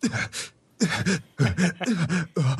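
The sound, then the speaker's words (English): A voice imitates the exaggerated gasps of an anime dub character, five short, breathy, voiced bursts in quick succession with brief pauses between them, fairly loud and alone. “You hear in anime dubs when the characters gasp, they go...”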